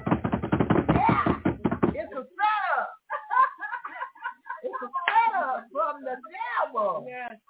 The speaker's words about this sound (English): If we could go there, America, if we could get a drum roll.